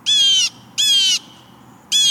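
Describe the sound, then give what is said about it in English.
A blue jay standing on a feeder calls three times in a row, each a loud, harsh, raspy squawk about half a second long, with short pauses between and no voices, as it finishes eating sunflower seeds and flies off. “When it's finished, it calls again and flies off.”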